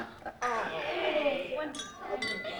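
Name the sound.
glasses clinking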